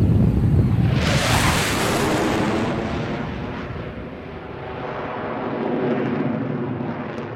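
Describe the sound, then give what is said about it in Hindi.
Eight Sabre fighter jets take off one after another from Peshawar at exactly 4:30: a loud, continuous jet-engine roar swells in with a rising whine, then rumbles steadily on, heavy, as the jets power down the runway. No voices. “ठीक 4:30 बजे 8 साइबर जेटों ने एक के बाद एक पेशावर से टेक ऑफ किया।”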